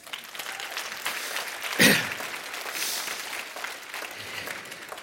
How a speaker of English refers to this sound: You believe that, give God a hand clap.